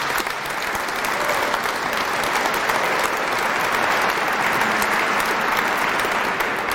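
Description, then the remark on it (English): A large audience at the Capitol in Wisconsin applauds steadily in tribute to a leader's work, a dense, continuous wash of clapping that stays loud and even from start to finish with no voices standing out. “He deserves another round of applause for the great work he does.”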